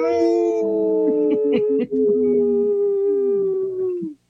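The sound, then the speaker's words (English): Several people imitate wolves, howling together in one long, sustained, wavering chorus that holds for about four seconds before cutting off, with one of them laughing instead of howling. The overlapping voices sound loud. “There was one wolf that was laughing and not howling.”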